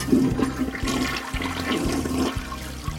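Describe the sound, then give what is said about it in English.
A toilet flushes with a loud rushing whoosh of water that churns steadily for a few seconds, with gurgling and a low rumble underneath. No one speaks. “To my mind, it's like the whoosh of the toilet as you flush almost serves as a mind eraser.”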